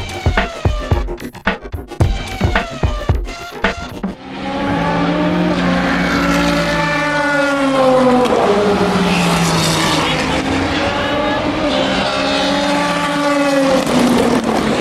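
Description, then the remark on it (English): Race cars at Le Mans scream past one after another at 3:15 in the morning as they go through the Dunlop Bridge, their engine notes rising and falling as each goes by in a loud, continuous stream, following a few seconds of clicks and rustling at the start. “But before I hit the sack, I thought you might like to hear the sound of the cars.”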